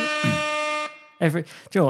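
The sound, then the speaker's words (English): A single loud klaxon horn blast, played as a sound effect to start a quiz, a harsh, steady buzzing tone held for just under a second and then cut off, followed by a few moments of someone talking. “Hit that klaxon.”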